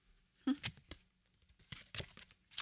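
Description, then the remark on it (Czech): Dry papery scrapes and quick snaps as a playing card, a ten, is pushed into a deck from Derren Brown, a few short bursts spread unevenly across the moment with quiet rustling between them. “Tak tu desítku, prosím tě, tady tě předávám balíček od Derena Browna a tu desítku tam strč do toho balíčku.”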